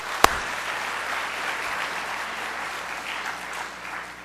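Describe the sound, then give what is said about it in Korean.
A crowd applauds steadily, a dense wash of many hands clapping at even volume for several seconds, with one sharp louder clap near the start. “박수 한번 칩시다.”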